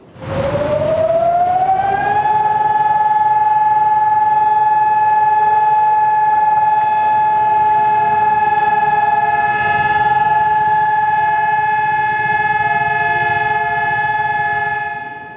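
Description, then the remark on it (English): A two-minute civil defense siren wailing across Israel in remembrance of the Holocaust's victims rises in pitch over about two seconds, then holds a loud, steady wailing tone with rich harmonics, with faint background rumble beneath. “Israelis stood in silence today as a two-minute siren wailed across the country in remembrance of the Holocaust's 6 million Jewish victims.”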